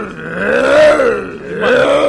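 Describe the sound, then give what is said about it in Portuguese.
A man's voice mimics the noise of loud motorcycles in Ilhéus: a sustained, buzzy, low growl that revs up, dips, then swells again over about two seconds, with no words spoken. “Operação Ilhéus precisa dar um basta nessa questão das zoadas provocadas pelas motos. Barulho infernal. Como é o efeito da moto?”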